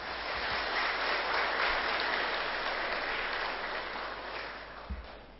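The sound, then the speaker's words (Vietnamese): A crowd of Buddhist lay followers claps steadily for several seconds during a talk, a dense, even wash of many hands with no voices, the applause holding at a moderate level before easing slightly near the end. “Nếu các quý Phật tử thấy điều đó là thích hợp và có thể làm được, hãy dâng cao một tràng vỗ tay thật lớn.”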